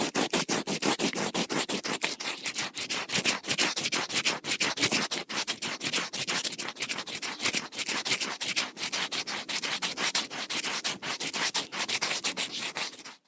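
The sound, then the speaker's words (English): A finger rubs rapidly against the back of a dry, papery wasp nest, making a steady scratchy rasp of quick repeated strokes. Fairly loud, it continues without pause and with no voices. “The noise you just heard was me rubbing my finger against the back of a wasp nest.”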